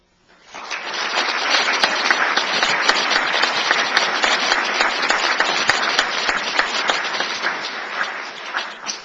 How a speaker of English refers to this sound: Thank you. And please remember to save your applause till the end from now on.